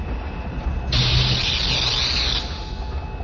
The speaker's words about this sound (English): But there was no scream of destruction and pulse of power through the superweapon. A fizzle of sparks splattered out the front end of the Darksaber, but nothing more.